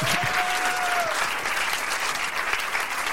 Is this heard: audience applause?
yes